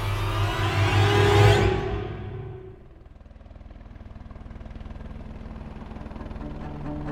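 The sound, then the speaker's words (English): Helicopters landing on a beach: a loud, roaring helicopter engine and rotor wash fill the first few seconds, then the high whine drops away, leaving a lower, steady drone with rapid rhythmic rotor thumping. “The helicopters have landed.”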